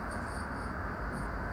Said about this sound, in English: We got a freight train going by.